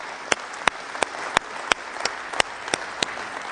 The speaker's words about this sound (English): Praise the Lord. One more time. Praise the Lord. Come on, let's clap our hands in this place.